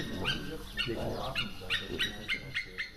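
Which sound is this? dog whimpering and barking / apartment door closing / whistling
dog whimpering and barking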